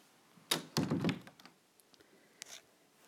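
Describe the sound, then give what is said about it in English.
A door swings shut with a solid thunk, followed by a short cluster of rattling knocks as it settles, then a few faint clicks and a soft brush of movement. “Come in. Close the door.”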